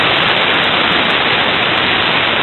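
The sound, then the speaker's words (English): Steady, loud hiss of white noise from an encrypted phone call with 120-bit AES encryption, as heard by someone listening in. It fills the whole stretch, uniform and unbroken like static, with no voices or other sounds over it. “Nothing but noise. Pure white noise.”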